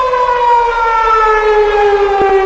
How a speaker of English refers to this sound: You can tell by the siren something strange is up.